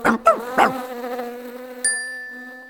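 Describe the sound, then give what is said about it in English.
A fly buzzes in a harmonic drone, its pitch swooping up and down a few times before settling into a steady hum, with a sharp bell-like ping near the end. “It's the fly.”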